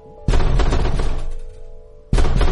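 impact, pounding on a door

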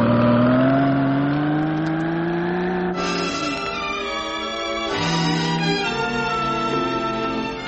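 vehicle, car accelerating away

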